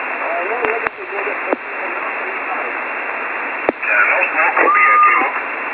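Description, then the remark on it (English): Steady hiss of shortwave radio static on an amateur radio emergency channel, with a faint, garbled voice buried underneath, broken by sharp clicks and a brief whistling tone near the end as the interference swells. “I can hear him, but I had QRM in between.”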